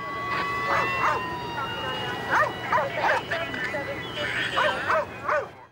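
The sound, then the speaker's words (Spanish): A Prince George's County police dog, searching in the dark, barks excitedly in quick clusters of sharp, yipping barks, fairly loud, with a few whiny yelps mixed in over a steady background hum. “Un oficial del condado de Prince George llegó con un perro policía y comenzó a buscar”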